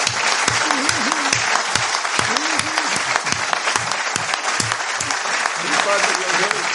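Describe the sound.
Sustained, loud applause from an audience, dense clapping throughout with a few shouted voices and cheers rising over it.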